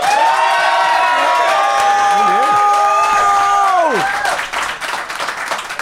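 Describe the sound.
An audience bursts into loud applause mixed with whoops and cheering voices, sustained and dense for several seconds before the clapping thins out slightly toward the end.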